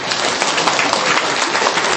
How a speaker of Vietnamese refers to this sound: Vỗ tay đi.